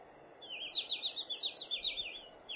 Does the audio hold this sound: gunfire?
no